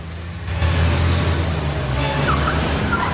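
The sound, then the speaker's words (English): A black sports car's engine starts up and the car is driven out of an underground car park. The sound is a steady low rumble with rising revs over about three seconds, loud and continuous, with no voices. “Flanagan hands Cross the flask, and he climbs behind the wheel of a black sports car.”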